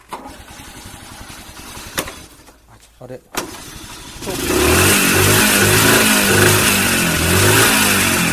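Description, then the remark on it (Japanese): A motorcycle with a new battery has its engine started: it cranks and catches partway through, then roars loudly and steadily with throttle blips. A brief voice is heard before the engine fires. “バッテリーさえ新品だったら、はい、エンジンかけるのも大変じゃないの。”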